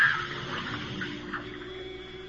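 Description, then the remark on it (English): A razor dropped into a filled bathtub gives a steady watery fizzing with a low electric hum running underneath. It stays fairly even for about two seconds, with no voices. “The razor. My lovely, faithless wife. Oh, no, not in the water”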